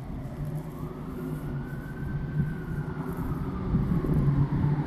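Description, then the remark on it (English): A loud car engine rumbles steadily with a deep, throbbing drone, growing slightly louder toward the end as it revs a little. A faint whine rises and falls above it. “Send in the loud car.”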